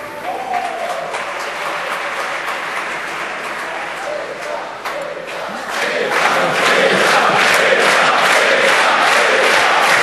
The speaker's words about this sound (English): Cheering for